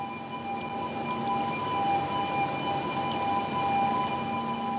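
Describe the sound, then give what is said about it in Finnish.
The alarm siren of Outokumpu's Lampinsaari zinc mine in Vihanti, Oulu province, Finland, holds a steady, unwavering high tone for several seconds, with no rise or fall in pitch, over a continuous low rumbling background. “Vihannin Lampinsaaren, kerran Euroopan rikkaimman sinkkikaivoksen, hälytyssireenit soivat jo vuosia sitten.”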